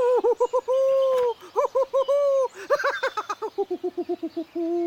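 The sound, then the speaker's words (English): An owl hoots in loud bursts of rapid, cackling hoots broken by a few longer drawn-out calls, sounding almost like laughter, with no talking. “What are you laughing at, you mangy old owl?”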